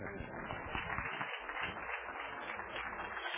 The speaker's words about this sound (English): And let's give them a clap.